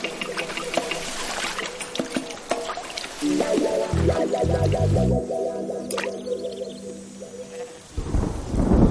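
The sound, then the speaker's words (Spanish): Steady rain hisses throughout while deep thunder rumbles roll in around the middle, with sustained tonal sounds layered over the storm before the downpour swells again at the end. “La lluvia puede transformar la tierra seca en un magnífico material de construcción.”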